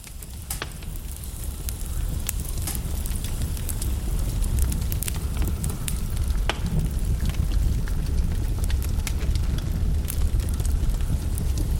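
A fire crackles steadily in a room, with frequent sharp pops and snaps scattered over a warm, low rumbling roar. No one speaks.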